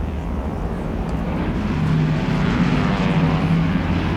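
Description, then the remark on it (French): A propeller airplane, flight 571, drones steadily above the clouded Andes cordillera as it makes a 90-degree turn and heads north to begin its descent, with a low, humming engine tone and broad rushing noise, holding a constant, fairly loud level with no voices. “L'avion fait un virage à 90 degrés et met le cap vers le nord pour entamer sa descente vers ce qu'il pense être l'aéroport de Santiago.”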